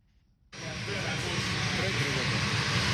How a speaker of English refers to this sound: The Boeing 737-800NG plane left Kigali at exactly 10 Wednesday morning. Rwanda Airlines says it will operate three weekly direct flights from Kigali International Airport to Kinshasa's Jili International Airport.